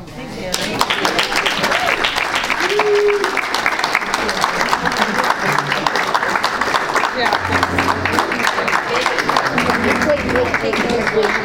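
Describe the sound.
Sustained audience applause, a dense steady patter of many hands clapping at an even loudness for the whole stretch, with faint voices and murmurs mixed underneath.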